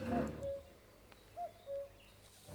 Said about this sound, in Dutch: Nee, nee. Dat is een echte koekoek. Het is de tijd van het jaar.